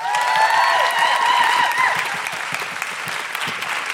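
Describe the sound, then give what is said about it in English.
An audience at a fringe show applauds the performing acts steadily, a dense wash of many clapping hands with scattered whoops and cheers rising over it early on, the clapping thinning slightly toward the end. “Can I have a huge round of applause for Josie, Jack and Cordelia?”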